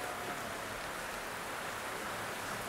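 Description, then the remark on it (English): A steady, even hiss of light rain, like fine drops carried on a breeze, fills the whole clip at a soft, constant level with no voices. “The wind is blowing a few raindrops your way.”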